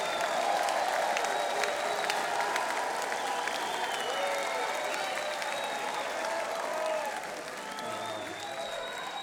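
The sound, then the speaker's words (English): Sustained audience applause at a live music performance by a quintet, a dense wash of clapping hands at steady volume with scattered cheers and whistles, easing slightly toward the end. “So give yourselves a hand, all right?”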